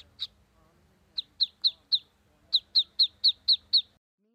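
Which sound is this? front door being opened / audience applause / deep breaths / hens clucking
hens clucking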